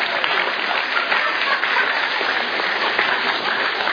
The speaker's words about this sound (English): Where are you? Clap hands. Applause.